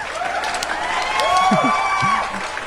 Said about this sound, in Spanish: Pocos como que les empiezan a temblar bien gacho las chichis y merecen un verdadero y hermoso aplauso.